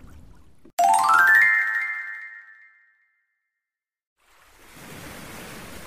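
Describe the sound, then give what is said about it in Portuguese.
Gentle waves of the Sea of Galilee wash steadily against the shore in sunshine in a soft, continuous hiss, coming in after a bright rising chime and a short pause of silence. “As ondas do mar batiam suavemente na costa.”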